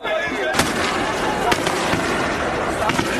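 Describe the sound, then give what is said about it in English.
Riot police fire tear gas canisters on a main street in Maputo, Mozambique, to disperse a crowd protesting alleged election fraud, producing three or four sharp, loud bangs at irregular intervals over the constant roar of a shouting crowd. “Several hundred people scattered as heavily armed police walked down a main street in Maputo and started firing tear gas.”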